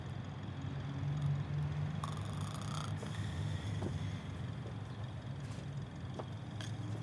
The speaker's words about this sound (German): Hallo? Schnarcht da jemand?